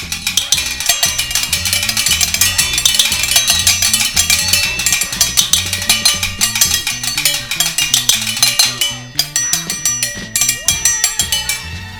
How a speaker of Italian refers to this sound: Vi abbiamo trasmesso breve concerto di pentole. Pentole Maddie vi invita all'ascolto del Tappabuchi del venerdì.